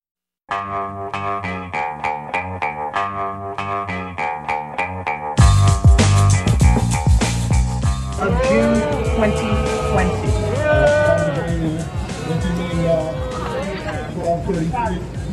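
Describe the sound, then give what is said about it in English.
A loud crowd of protesters boos at New York City Hall at 12:33 a.m. on July 1, 2020, as the City Council passes the final city budget, many overlapping voices holding long, wavering jeers that rise and fall in pitch, preceded by a few seconds of steady, rhythmic tonal pulses. “Is the sound of protesters booing at City Hall.”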